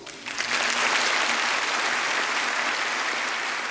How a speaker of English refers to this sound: The applause was warm, but not ecstatic.